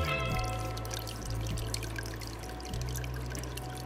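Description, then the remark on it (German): A steady low hum recorded underwater in a home aquarium, with a constant bubbling, trickling wash of water over it and brief dips in the drone. “Also es ist auf jeden Fall eine Unterwasseraufnahme. Da brummt irgendwas, aber das ist kein Fisch, oder?”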